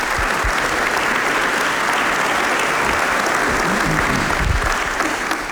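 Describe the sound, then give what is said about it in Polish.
An audience applauds a professor steadily, the dense clatter of many hands clapping filling the whole clip at an even, loud level with no voices standing out. “Jeszcze raz wielkie brawa dla Pana profesora.”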